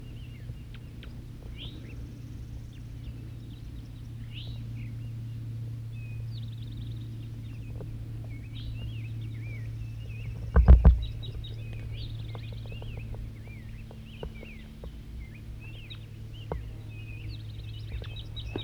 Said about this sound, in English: Wild birds calling. Another wild bird, another male's coming in. Wild bird singing.